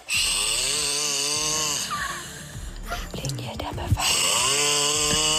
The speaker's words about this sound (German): Ist ja der Wahnsinn. Antenne sucht die größte Schnarchnase Brandenburgs.